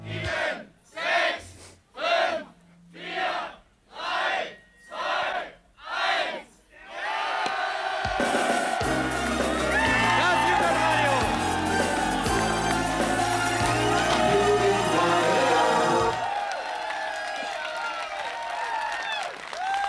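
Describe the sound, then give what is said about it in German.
A crowd celebrating the radio station DT64 getting its frequencies back, with champagne corks popping and toasting, chants in about seven rhythmic bursts, then breaks into loud, sustained cheering and shouting, a dense roar that holds steady before easing slightly near the end. “Hier knallen die Sektkorken und die Leute freuen sich.”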